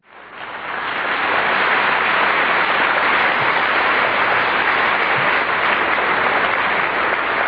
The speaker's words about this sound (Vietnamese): Xin quý vị, một tràng pháo tay thương yêu chào đón Ngài đã đến với chúng ta hôm nay.